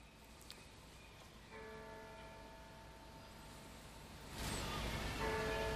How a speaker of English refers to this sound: Bells and whispered voices you're hearing live from Oslo as Norwegians observe a moment of silence to commemorate the victims of Friday's bombing and shooting rampage.